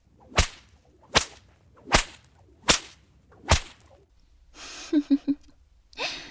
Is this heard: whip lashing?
yes